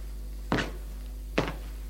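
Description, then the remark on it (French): A woman closes a door in a bright hallway with two dull, solid thuds about a second apart, moderately loud, over a steady low background hum with no talking. “Elle entre, la femme ferme la porte.”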